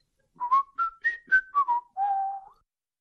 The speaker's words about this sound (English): And here is what whistling is.